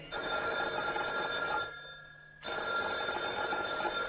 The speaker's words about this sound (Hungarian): Ki az az őrült kakadó, aki ilyenkor telefonál? Az embert még éjszaka se hagyják békét.